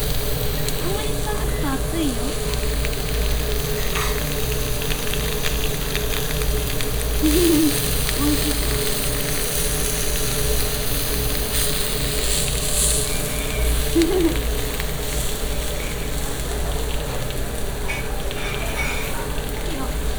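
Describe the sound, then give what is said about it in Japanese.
Meat sizzles loudly and steadily on a grill covered with bean sprouts, a dense hissing crackle that never lets up, with fat dripping and spitting underneath and faint voices murmuring briefly in the background. “すごい音してるよ。めっちゃ落ちてる。ほらほら。超ジュージュー。”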